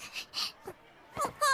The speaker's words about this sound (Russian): не плачь.